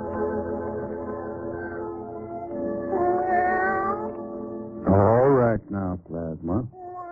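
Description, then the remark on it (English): A cat meows continuously in long, drawn-out wails, then gives a few shorter, sharper meows at the end, loud with no talking. “Now, be a good cat and take yourself a nap.”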